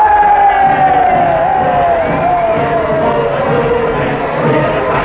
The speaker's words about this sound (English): Weeks of campaigning while the cheers and shouting reach their frenzied peak.